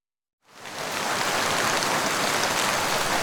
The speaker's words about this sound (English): But suddenly, it starts raining heavily.